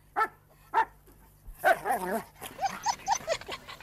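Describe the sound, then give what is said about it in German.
A female dog barks twice, short and sharp, then lets out a rapid string of yelping, whiny barks, fairly loud with no voices around. “Sie war keine Frau, sondern ein Hundeweibchen.”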